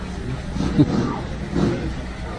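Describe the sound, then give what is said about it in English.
A loud engine of a big old pickup truck roars by at a baseball game, a deep, rumbling growl like a motorcycle that swells twice as it passes, over a steady low background hum. “Sounds like a motorcycle. It looked like a big old pickup of some sort.”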